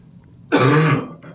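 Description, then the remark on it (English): A single loud throat clearing that turns into a rough cough, lasting about half a second before fading into quiet room tone. “Can't wait to see the online reviews for these noises. Coughing.”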